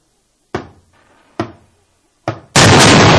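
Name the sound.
knocking on a door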